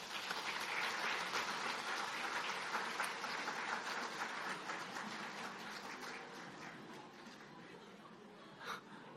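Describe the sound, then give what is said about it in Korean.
An audience at a church service applauds together to welcome a baby attending for the first time, a steady wash of many hands clapping that holds for several seconds before gradually thinning out, with one brief louder clap near the end. “우리 박수로 환영하겠습니다.”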